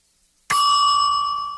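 bell ringing

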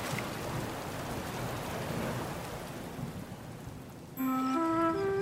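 thunderstorm with rain

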